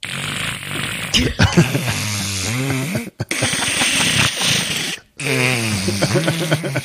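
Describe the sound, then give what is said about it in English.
A person imitates their male cat snoring while asleep, said to sound like a gremlin, with a series of drawn-out, rumbling, wavering vocal snores, each breath separated by brief pauses, fairly loud and alone. “My cat snores.”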